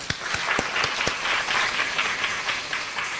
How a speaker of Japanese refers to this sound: 皆さん拍手してあげましょう。